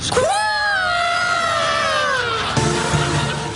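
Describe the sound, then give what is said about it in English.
A loud, sustained shouted call, as a mock Eagle Scout cry: one voice swoops up sharply, holds a long wavering note that slowly sinks, then breaks into a lower, rougher tail. “Okay, before you go, let me hear the official Eagle Scout call.”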